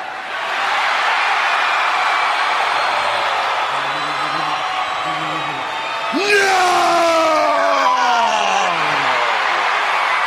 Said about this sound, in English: Massive cheer that went up when she got on her knees.